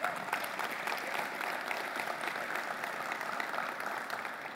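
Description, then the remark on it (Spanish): An audience applauds for the Lord during a Christian sermon, a dense wash of many hands clapping at an even level for several seconds without pause or voices. “Si usted lo cree, regálale un fuerte aplauso al Señor.”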